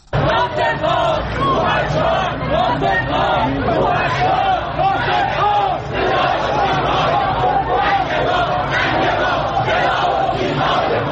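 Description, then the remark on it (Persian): A large crowd shouts together in loud, continuous chanting, many voices rising and falling in rhythmic protest slogans with a dense roar of babble underneath throughout, at the Sunday funeral procession of veteran Iranian actor Naser Malek Motiei in Tehran. “این فریاد مردمی است که روز یک شنبه در تهران ناصر ملک مطیعی بازیگر پیشکسوت ایرانی را تا خانه ابدیش بدرقه کردند.”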